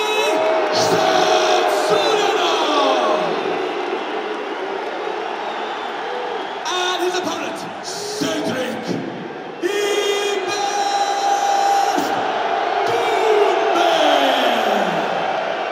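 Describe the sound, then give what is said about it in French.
A packed crowd of fans at a PFL mixed martial arts event in France roars and cheers without pause at the entrances of fighters Baki and Doumbé, with whoops, shouted voices and shrill whistles, while long sliding tones sweep downward through the steady, loud din. “Tout avait pourtant si bien démarré, deux entrées largement célébrées par les fans.”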